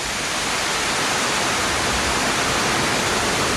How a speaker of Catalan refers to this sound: Ah, això és el riu.